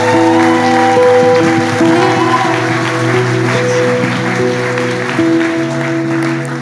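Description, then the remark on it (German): A church audience applauds steadily and loudly for several seconds as the pastor is invited up to preach, the dense clapping running over sustained tonal music with low held notes. “Du kannst gern schon hochkommen und lass uns ihm großen Applaus geben.”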